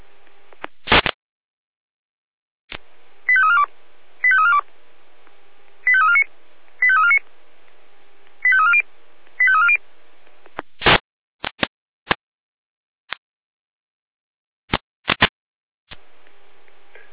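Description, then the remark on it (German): Fire brigade alarm call tones from the Jena dispatch centre (Leitstelle Jena) over a radio: three pairs of short, warbling tone bursts in a steady pattern, framed by sharp clicks and crackles before and after, with no one talking. “Jena mit Alarmruf.”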